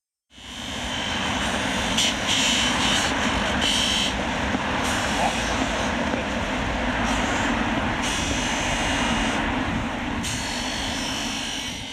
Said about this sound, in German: Diese Geräusche sind uns allen bekannt. Der ständige Straßenlärm und Baustellen an jeder Ecke, sie gehören schon zum Alltag.